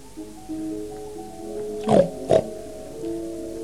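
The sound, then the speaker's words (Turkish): A pig gives two short, snorting oinks in quick succession, fairly loud, over a faint, steady tonal background. “Ben etmem der domuz.”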